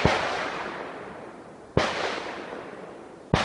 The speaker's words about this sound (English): And he said, oh, I'm just doing a little shooting range for a few friends, just for a few friends. It's going to be, you know, just a little thing for friends. Of course, some friends are louder than others.